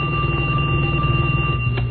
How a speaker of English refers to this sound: Who's calling? All right, let me get the phone. Hold on a second. Hold on a second.